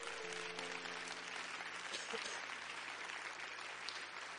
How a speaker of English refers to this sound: In Jesus' name, if you're thankful for it, would you clap your hands together?